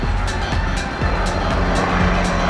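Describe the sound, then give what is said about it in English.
A helicopter passes overhead, its loud rotor thumping steadily in a rapid pulse over a deep engine drone. No one speaks. “sorry, a helicopter went by.”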